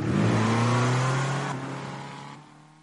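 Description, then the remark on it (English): A Fiat 500 Abarth engine revs in a loud, buzzing drone with strong low harmonics, holding steady before easing off and fading in the last second. No one speaks. “The Fiat 500 Abarth. You'll never forget the first time you see one.”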